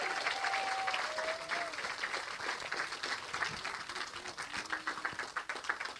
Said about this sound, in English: Okay, how about one more round of applause for …?